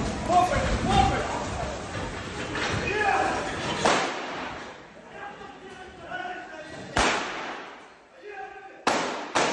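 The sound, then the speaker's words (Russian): Several sharp, loud gunshots ring out at irregular intervals over a noisy crowd with shouting voices, as a crowd of several dozen people tries to storm a company office at Romanov Dvor in Moscow on 18 September; the later shots stand out against a quieter background. “Еще через пару мгновений раздаются первые выстрелы.”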